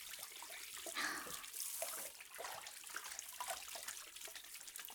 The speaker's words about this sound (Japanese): 泡を流します。リラックスして。シャワー。耳のところはゆっくり流すからね。